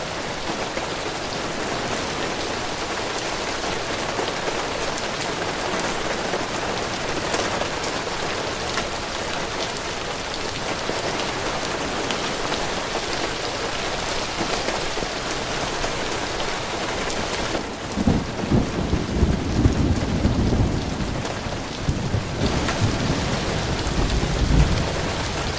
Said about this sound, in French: et 30 secondes pour écouter la pluie.